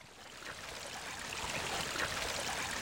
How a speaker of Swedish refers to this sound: Vi tar oss till en solig dag i höstas, fast det låter nästan vårigt, som en vårflod.